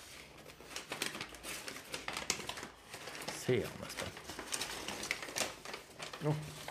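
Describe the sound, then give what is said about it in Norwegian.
Crinkling and tearing of wrapping paper from a gift, with bursts of tape pulling loose, continuing in busy irregular rustles while people talk over it; the gift inside is a roll of paper with more tape. “Han har fått papir. En rull med papir. Oi, oi, oi. Bra. Enda mer teip også.”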